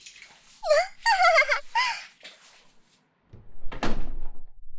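door being closed

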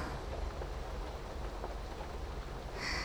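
rain falling

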